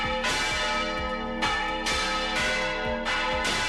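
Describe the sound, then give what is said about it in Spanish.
The church bells of the village of Viguera in La Rioja, Spain, peal loudly, several strikes ringing out in quick succession with rich, lingering overtones that overlap one another. There is no talking. “Y con ella, el pueblo perdió también uno de sus sonidos más queridos, el repique de las campanas.”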